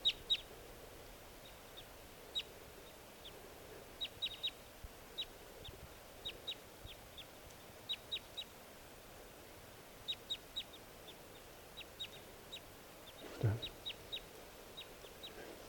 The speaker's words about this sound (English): Not really showing too much interest in coming down, although the fresh decoys are calling more now. Stop. Okay, the new birds are calling.